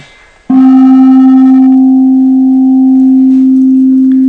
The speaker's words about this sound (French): il y a une cloche qui est une copie d'une cloche chinoise qui vient du carillon antique qui a été exposée à la Cité de la Musique il y a 4 ans. Une expo qui s'appelle La Voix du Dragon.